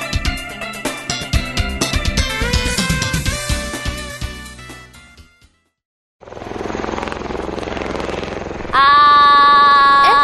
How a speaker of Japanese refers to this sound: あれはオスプレイだね。 あれってどこに向かってるんだろう。あ、もしかして那覇空港？ まさか。基地に向かってるんだよ。